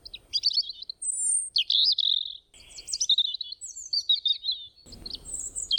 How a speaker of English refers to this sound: The bird finishes the crumb. It looks up again. It peeps 3 times in a row. It is asking for more, laughing. It wants more.